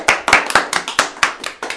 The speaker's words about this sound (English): Let's all give a round of applause.